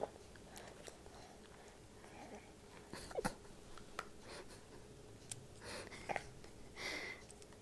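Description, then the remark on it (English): A dog laps and slurps water, a quiet series of irregular wet clicks and smacking sounds with brief pauses, no voices present. “Oh, now you're slurping.”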